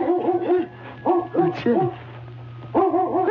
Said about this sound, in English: It's a dog back here in the woodshed. I wonder what kind of a dog.